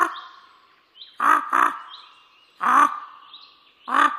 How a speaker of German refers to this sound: Es blieb eine Zeit lang ganz still. Dann klang ein rauer, rissiger Krähenruf durch die Luft von hoch oben.